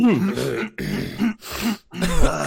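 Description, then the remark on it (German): Three voices cough and clear their throats together in chorus, in a few rough, loud bursts separated by short pauses, sounding like a deliberate group imitation. “Können wir mal zu dritt so ein bisschen im Chor husten?”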